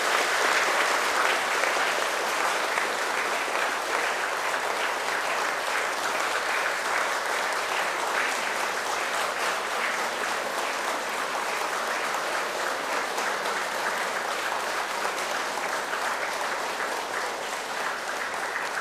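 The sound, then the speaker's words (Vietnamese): A long, sustained round of loud applause from a large crowd of Buddhists at Giác Ngộ pagoda, in support of a speaker's proposal, many hands clapping densely and steadily for nearly twenty seconds with no talking over it. “Những tấm lòng cao quý đó đó sẽ được thăng hoa nhiều hơn nếu như quý vị cùng ủng hộ cho cái đề nghị của tôi bằng một tràng vỗ tay thật là lớn và giòn giã.”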